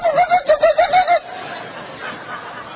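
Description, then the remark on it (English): A person imitates sparrow chirps with a quick run of about seven short, bright, pitched cheeps in steady rhythm, fairly loud, then stops, leaving only faint background hiss. “I'll stick to my day job and I'll not imitate sparrows probably another time in my ministry.”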